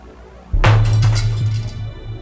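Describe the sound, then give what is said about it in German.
A caretaker throws a few destroyed electronic parts, including a mobile phone broken into pieces, onto the floor at someone's feet. There is a sudden clattering crash, with bright metallic and plastic clinks scattering over a low resonant hum that lingers and slowly fades. No one speaks. “Der Hausmeister warf Heike ein paar zerstörte Elektronikteile vor die Füße.”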